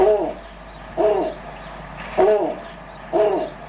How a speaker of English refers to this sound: And since you can't see the snowy owl over the radio, let's take a listen to what the snowy owl sounds like.